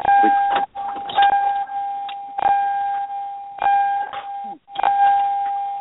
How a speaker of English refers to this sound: You're getting in your car and we hear all that dinging.